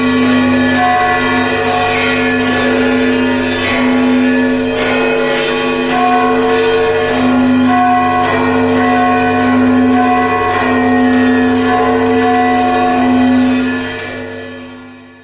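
A church bell peal rings out loud, with overlapping strikes in a steady rhythm and a dense, humming resonance that continues throughout before fading away at the end. No one speaks.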